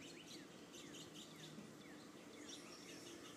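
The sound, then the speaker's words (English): Birds chirp and tweet continuously outside a window, with quick, repeated high calls layered over a steady ambient background. No one speaks. “Sitting by this window and listening to the birds”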